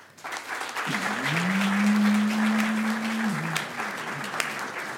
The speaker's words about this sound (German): Höflich, das ist ungefähr den Applaus, den ich erwartet hätte. Nee, ihr wisst ja gar nicht, wo es war. So ein Wachtelapplaus.